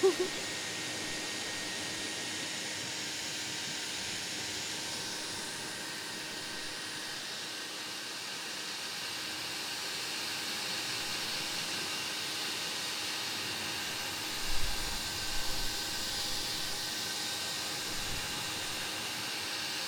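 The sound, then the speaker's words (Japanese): A hair dryer blows steadily while drying someone's hair, with a broad, airy whoosh and a faint motor whine, holding an even level throughout with a couple of brief low thumps near the end. “ドライヤーの温度は大丈夫ですね。もし暑かったらすぐ言ってくださいね。”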